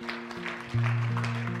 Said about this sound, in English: A round of applause.